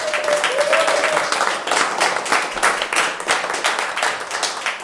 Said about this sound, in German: Großen Applaus